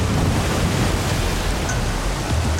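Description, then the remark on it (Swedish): A loud, steady roar of churning water as a huge white, foaming wave surges in over land, sweeping along boats, cars and houses, filling the whole space with a thick, unbroken rush and no voices. “Du rusar upp till översta våningen och ut på takterrassen just när vågen slår in över land.”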